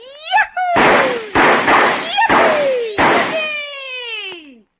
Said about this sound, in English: This looks like as good a spot as any to start the fireworks